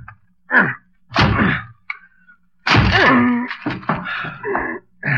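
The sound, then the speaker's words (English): A door is battered with a chair: several loud, heavy thuds and whacks at uneven intervals, the last blow followed by a drawn-out creaking groan and clattering. “Okay, give me a chair. I'll break this door down for you.”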